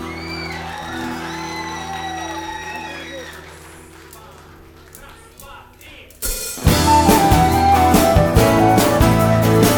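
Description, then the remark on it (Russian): An audience whoops and shouts, being recorded onto tape, over a steady low hum, the cheers rising and falling. Around six seconds a much louder, dense wash of sound bursts in and carries on to the end. “Спасибо, ваши голоса и ваши аплодисменты тоже будут на этой пленке, если только эти люди не забывали менять свои кассеты.”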